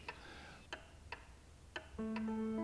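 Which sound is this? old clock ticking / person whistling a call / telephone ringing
old clock ticking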